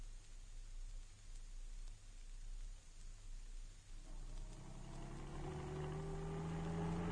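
A car engine hums steadily, then revs up around the midpoint, its pitch climbing and strengthening as the vehicle accelerates. Road rumble underneath, no voices.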